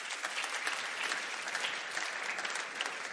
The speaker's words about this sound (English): What an awesome testimony. I think that's worth a clap. You can clap that.